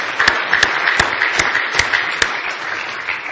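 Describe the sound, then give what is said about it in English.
An audience applauds singers as they come onto the platform to sing, dense overlapping clapping with a few sharper individual claps standing out, steady and moderately loud throughout with no voices. “Give them a nice hand as they come tonight to sing for you.”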